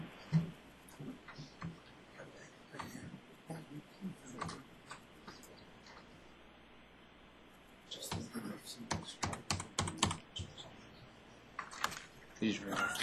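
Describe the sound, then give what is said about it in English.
Fast, uneven computer keyboard typing with clustered clicks and short pauses, louder bursts in the second half, with faint room noise underneath and no clear speech. “This is a keyboard issue for those wondering, not an application issue.”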